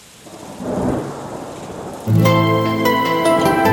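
Steady rain hisses with a low thundery rumble for about two seconds, then music comes in loudly, its sustained tones layered over the fading storm.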